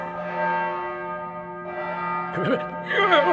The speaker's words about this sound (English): The bell is ringing. England needs me. Wake up, Knights of the Round Table!